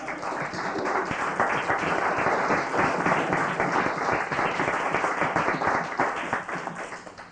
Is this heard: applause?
yes